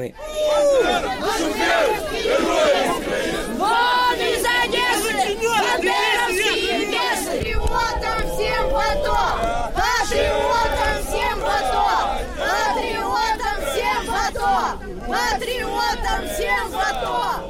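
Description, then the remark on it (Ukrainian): A dense crowd in the Odesa region of Ukraine shouts and yells over one another in a continuous, loud uproar, with overlapping agitated voices and rising cries throughout. It is a scuffle involving pro-Russian Kulikove Pole activists, pro-Ukrainian supporters and police. “Між ними та представниками проукраїнських сил виникли суперечки, а незабаром і штовханина з поліцейськими.”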